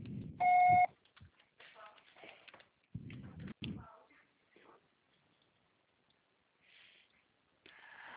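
voicemail beep tone

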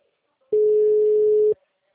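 telephone ringing tone

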